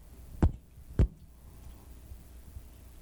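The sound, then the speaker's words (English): Two sharp taps about half a second apart, tapped out as a slightly altered heartbeat rhythm, followed by a long quiet pause with only low background rumble. “So what I'd like you to do is we're going to do a little, it's kind of a heartbeat, slightly altered heartbeat. So it's going to go like this.”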